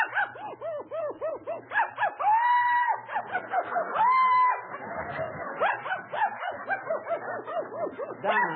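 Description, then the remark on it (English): A dog barks loud in a rapid, yapping series, broken by two drawn-out whining howls before the quick barks resume. No one speaks. “dog, wait a minute.”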